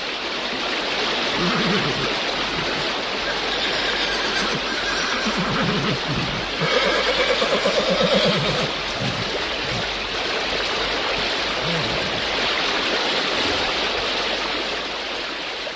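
The rushing current of the Moldava river roars steadily and loudly throughout as it sweeps away a horse and its rider; the horse neighs and whinnies through the churning water, most clearly near the middle.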